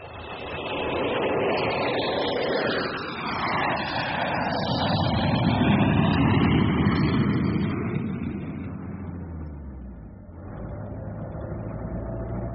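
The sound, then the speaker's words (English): A shared taxi's engine drones steadily as it drives through city traffic in Rome, its pitch swelling and easing with acceleration, surrounded by a dense wash of road and street noise. “I'm glad we decided to share a taxi.”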